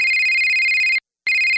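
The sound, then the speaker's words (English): A telephone rings loudly with a steady electronic trill, one long burst, a brief pause, then the ring starting again, with no voices. “Don't you dread that phone call?”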